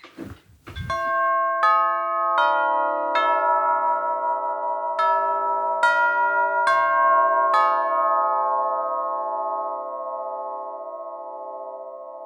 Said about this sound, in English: So that is a long bell, eight-note melody, Westminster peal, played on a vintage long bell door chime. The long chime is exactly as you would imagine, long. You can picture it as sort of a flat wind chime up against the wall.